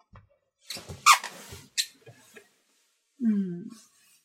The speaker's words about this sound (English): You like these heels, don't you? Hear the squeak?